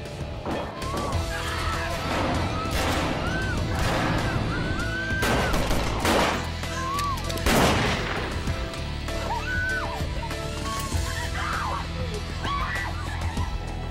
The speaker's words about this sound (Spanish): Dentro de la cabina, Rezaq oye disparos.